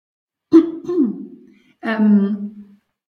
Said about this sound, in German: Ich muss einmal mich räuspern. Sie können auch gerne. Tut mir leid, sonst, ja.